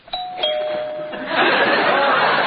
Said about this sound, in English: Because somebody rang the doorbell. But it didn't ring.